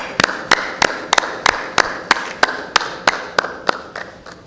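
Steady, rhythmic clapping in a senate session, a round of applause opening a speech to the senators: about fourteen sharp, evenly spaced claps over a few seconds, moderately loud, with no voices.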